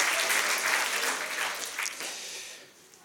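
A short burst of applause from a small group, dense clapping that holds steady and then thins out and fades toward the end, with no one talking over it.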